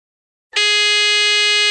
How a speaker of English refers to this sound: Remember, it's first one to three. Fingers on buzzers.